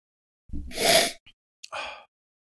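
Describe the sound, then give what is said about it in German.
A long, loud sniff drawing air in through the nose, followed after a short pause by a second, shorter sniff, as someone smells something with a strawberry scent. No one speaks. “Wenn man so dran riecht, so ein bisschen. Erdbeer würde ich mal so. Rieche ich jetzt einfach mal.”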